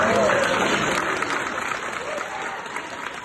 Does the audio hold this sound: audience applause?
yes